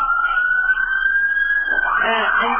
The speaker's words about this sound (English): Well, we got some sirens in the background. That must be a little extra drama. Yes. They're coming to get us, right?